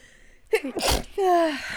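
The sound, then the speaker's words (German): A single sneeze: a quick breathy intake building to a sharp burst of noise, followed by a short voiced sigh or exhale afterward. “Ich muss niesen.”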